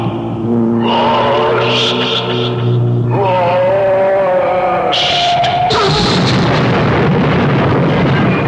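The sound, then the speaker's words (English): A car engine whines and strains with shifting pitch, then gives way to a loud crash and a long, rumbling explosion as the vehicle plunges over a canyon edge. “You're right over the canyon. But the car. Not the car.”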